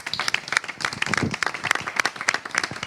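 A room full of people applauds steadily, dense overlapping claps sustained at a moderate, even level for a few seconds with no one speaking over it.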